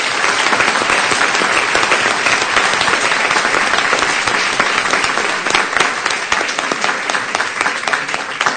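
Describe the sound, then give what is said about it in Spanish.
Sustained audience applause at a live music performance, just before the first song, a dense steady wash of many hands clapping at full volume for the whole stretch, with no voices over it. “Así que, para él, un fuerte aplauso.”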